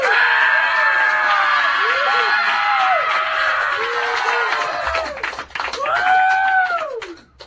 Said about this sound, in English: So you mean you're not going to applaud and scream for being halfway there?